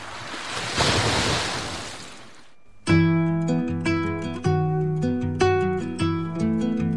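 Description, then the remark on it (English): In a station ident for Ràdio Begú 97.7, ocean waves break on the shore in a hissing rush that swells and then recedes over about two seconds, before melodic music with steady rhythmic notes takes over. “Ràdio Begú, la sintonia del mar, 97.7.”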